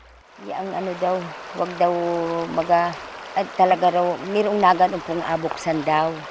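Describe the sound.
A steady rush of flowing river water runs underneath, while a woman's voice talks prominently over it throughout.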